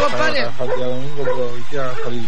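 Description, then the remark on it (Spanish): Dogs bark and yelp loudly, a few overlapping, pitch-bending barks packed into a couple of seconds with hardly a pause between them. “Saludos para usted y para todos sus perritos que están ladrando ahí.”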